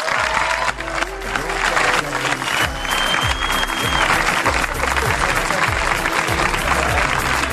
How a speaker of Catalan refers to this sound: Ells són, i demano un fort aplaudiment per ells, perquè ara hi tenim una pila de gent i nens aquí també que els han vingut a veure